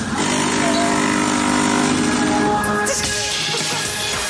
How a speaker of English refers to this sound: This DJ remixes of songs with coffee machines. I'm just worried the coffee machine's going to get sued now.